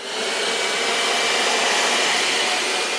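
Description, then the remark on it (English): A vacuum cleaner runs continuously as the floor is vacuumed, with a steady, loud whooshing roar that holds constant from start to finish, with no voices. “I vacuum the floor.”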